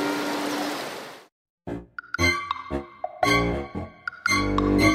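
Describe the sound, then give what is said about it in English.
A short burst of steady, rushing water from a large river fills the opening second, then cuts out to silence before a series of bright chiming dings and tinkling bell tones. “He saw a large river and decided to swim.”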